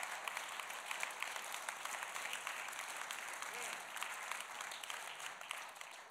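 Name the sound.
audience applause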